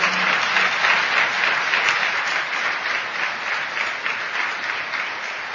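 Sustained applause from an audience applauding for being present, a dense steady wash of many hands clapping at a loud, even level for several seconds with no voices on top.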